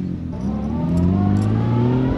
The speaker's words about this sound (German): Der Christoph Dumrat gibt Gas. Als letztes Auto starten wir Richtung Chur, das ganze lange Bündner Oberland durchab auf einer gut ausgebauten, breiten Strasse.